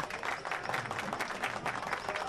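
A crowd applauds steadily, with many hands clapping in a dense, continuous patter at an even loudness throughout.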